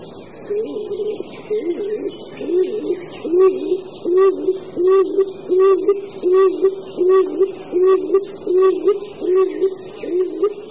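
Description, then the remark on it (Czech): A stock dove coos in a steady, monotonous series of low, hollow hoots, repeating at a regular rhythm and fairly loud, with no other sounds around it. “Celkem jednotvárný houkavý hlas nepochybně prozrazuje, že patří nějakému druhu holuba.”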